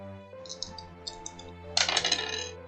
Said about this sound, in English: Oh, that is a 14. Nice. So... I love these dice. This is my grandpa's die.